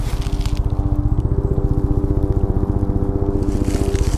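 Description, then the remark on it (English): A helicopter heard through a tree trunk in a city park, picked up by microphones pressed to the tree surface: a muffled, steady, rapid low thudding of rotor blades over a droning engine hum, continuous throughout with no voices. “Helicopter in air, helicopter in tree.”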